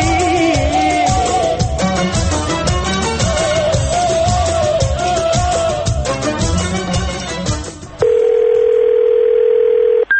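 Upbeat music plays for about eight seconds, then cuts to a loud, steady phone tone, like a ringback signal, holding for roughly two seconds. No one speaks.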